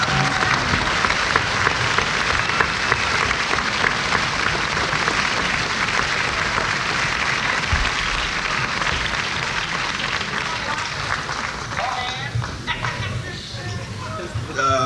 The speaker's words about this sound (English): Let's give him a nice round of applause.